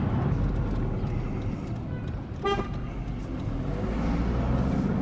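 A car drives through Hebron toward the entrance of the old town to park, with a steady engine and road rumble, and a short horn honk sounds about halfway through before the drone carries on.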